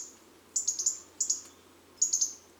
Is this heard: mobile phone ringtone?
no